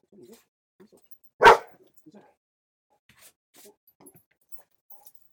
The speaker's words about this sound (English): That's the way he sees somebody outside. Probably should put the grapes down. Sit down. And this is so. This is what we have. We have the barking dog situation. Yep. Lay down. Lay down.